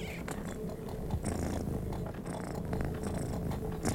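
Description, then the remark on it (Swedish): A cat named Liselinus purrs steadily, a low continuous rumbling vibration that fills the whole stretch with no talking over it. “Ja, du är allt en snäll och förstående katt, du, Liselinus.”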